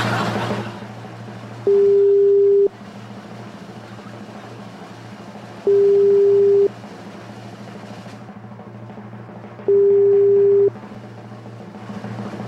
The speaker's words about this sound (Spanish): A lo mejor el amigo piensa que es una llamada de cobranza. No, no, si lo estamos llamando por WhatsApp.